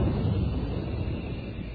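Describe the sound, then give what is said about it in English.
A steady, rushing hiss of a pressurized jet of moisture spray blasts without a break for nearly two seconds, loud and even, with a heavy low rumble under the spray, used in an advert for the Moisturize Rolly 903 cigarette. “That jet of fresh pure moisture stands for the new, different Moisturize Rolly 903.”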